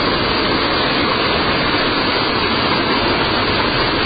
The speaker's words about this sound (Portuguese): Essa roda d'água hoje dá para se praticamente produzir energia elétrica para toda a reserva, uma energia limpa.